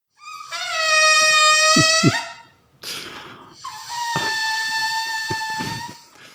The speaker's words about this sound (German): Ja, das ist das Geräusch, das entsteht, wenn einem prall gefüllten Ballon die Luft entweicht.